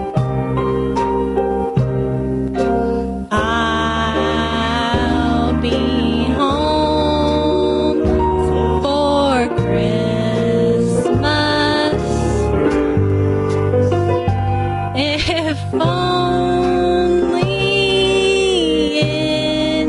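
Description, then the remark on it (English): A woman sings a slow version of a heartfelt love song over full instrumental backing, her sustained, wavering notes loud, carrying continuously with no talking. “What's interesting, she's actually trying to sing it.”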